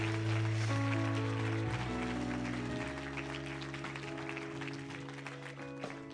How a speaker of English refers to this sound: You go ahead and clap your hands for our live stream family real quick.